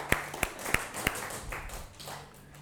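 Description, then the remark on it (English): A small group gives everybody a round of applause after putting a puzzle together, clapping for a few seconds, with several sharp, evenly spaced claps standing out over a lighter patter of hands that fades near the end. “All right, let's give everybody a round of applause.”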